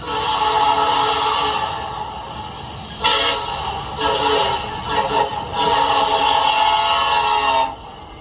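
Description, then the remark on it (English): A diesel locomotive horn blares loud in a series of blasts: a long opening blow, several shorter toots, then another sustained blast before it cuts off, with no talking. “Yes, you'll enjoy hours and hours of a variety of various trains and railroad sounds, such as diesel horns.”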